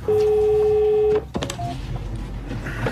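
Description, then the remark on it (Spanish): A loud, steady electronic telephone tone sounds for about a second, then cuts off into a few sharp clicks and soft background rustle. “El teléfono.”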